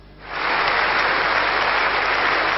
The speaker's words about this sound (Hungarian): Ekkora taps fogadta a törvény elfogadását. A képviselők 3 nem szavazattal és 5 tartózkodás mellett hozták meg a döntést.